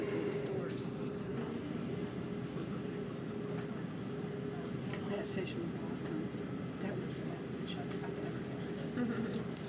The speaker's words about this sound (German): This is a live recording inside the Jerusalem tram.